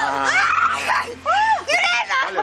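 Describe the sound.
A woman shrieks excitedly at close range, her high-pitched voice swooping up and down in three loud, quick bursts.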